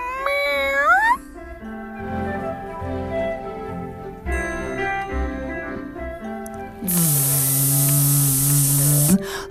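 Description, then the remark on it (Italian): A cat meows in a high, rising wail, then keeps up drawn-out, wavering yowls over a steady low tone, ending with a loud hissing rush. “Se no, canta in falsetto senza vergogna la sua gioia ad esistere, felino.”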